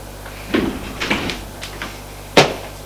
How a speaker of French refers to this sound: Frappe à la porte. Entrez! C'est la bonne qui entre avec le thé.